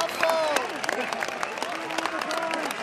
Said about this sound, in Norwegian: Står kanskje 300-400 mennesker der. Vil jeg høre hvordan jubel Diego Maradona får når han bare går ut av bilen? Så hører det. Ok, her kommer det. Der går han ut av bilen.